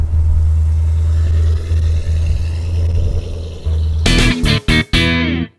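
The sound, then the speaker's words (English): A Mustang's engine idles with a steady low rumble at the Cruising Flat Rock classic car event, then revs loudly in a few sharp bursts as the car pulls away, with no talking. “Okay, I'm driving away.”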